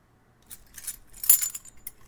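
A bunch of keys to a storage-room closet jangles in a few quick, bright metallic bursts as they are handed over, with a louder clinking shake in the middle before settling, no voices present.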